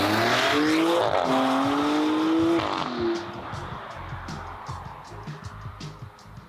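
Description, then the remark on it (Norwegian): The engine of a Maserati Grecale Trofeo SUV revs hard and climbs in pitch for about three seconds, then drops off as the vehicle continues with a rough, throaty rumble and a faint squeal of tires. “Maserati Grecale, altså siste man ut i det heftigste SUV-segmentet, Andreas, var det jeg skulle si, i da Trofeo-versjon”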